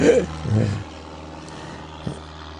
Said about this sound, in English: Oh, airplane. Yeah, I'm used to this.